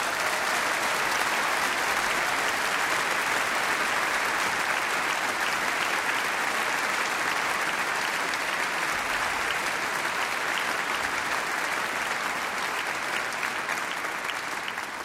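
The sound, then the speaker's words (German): A concert audience applauds a musician of the Psychokammerorchester steadily for about fifteen seconds, a dense, even wash of many hands clapping at a constant loud level with no voices rising above it. “Und ich würde um einen Applaus bitten für diesen wunderbaren Musiker.”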